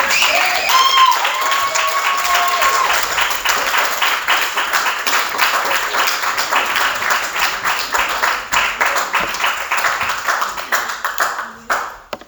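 Sustained applause from a crowd at an Alcoholics Anonymous meeting for the night's speaker, a dense patter of many hands clapping at a steady loudness for about twelve seconds, with a few brief whoops early on before it tapers off.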